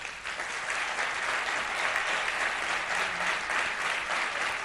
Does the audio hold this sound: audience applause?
yes